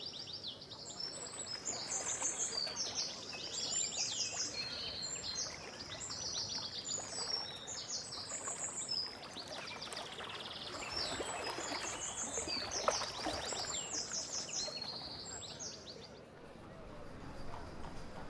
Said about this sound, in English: I had given up doing the river walk there opposite the cathedral till a friend told me about how she loves to walk there on her own and just listen to it. And there is a great music in that river down there.